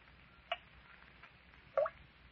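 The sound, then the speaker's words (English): Two separate water drips land about a second apart in an underground cavern, each a short, hollow plink against a quiet, faintly hissing background with no voices. “That steady drip. Drip of water.”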